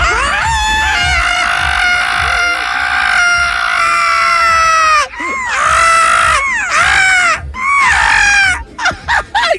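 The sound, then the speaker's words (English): Several voices shriek together in loud, sustained, warbling howls, imitating a monkey's mating call, then break into shorter rising yelps and whoops before trailing off in choppy bursts. “If you were that animal, the monkey, right? What would your mating call sound like?”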